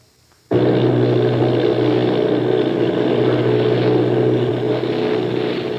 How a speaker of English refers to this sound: Army bombing plane V-843 off Bayonne, New Jersey. Lieutenant Volt commanding 8 bombers, reporting to Commander Fairfax Langham Field.